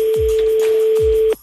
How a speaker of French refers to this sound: on va faire sonner le téléphone chez Joël à Linsdorf